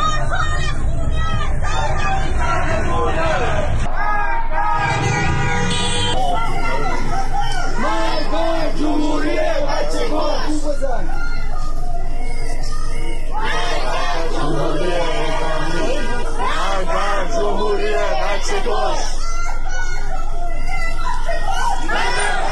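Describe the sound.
A large crowd of protesters chants slogans together in loud, rhythmic bursts, the shouting rising and falling continuously over a dense background of street hubbub, in the streets of Tehran.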